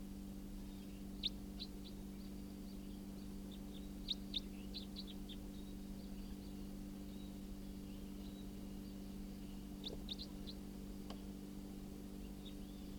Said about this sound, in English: Oh, that's it. Wild bird. Stop. Bird's giving flight calls now.